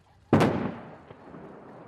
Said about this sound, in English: With a series of large explosions, blast! North Korea claims it destroyed its once-treasured testing grounds, used since 2006 to build increasingly powerful nuclear weapons.